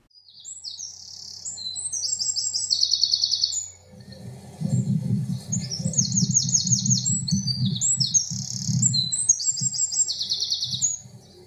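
A wren, a small garden bird, sings loud, rapid, bright trilling phrases in several bursts over a steady low rumble of background noise that sets in partway through.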